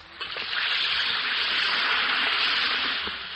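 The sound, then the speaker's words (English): An Alka-Seltzer tablet fizzes in water, a steady, bright, hissing effervescence with tiny crackling pops that holds level for about three seconds, then eases slightly at the end, with no voices. “Listen to it fizz.”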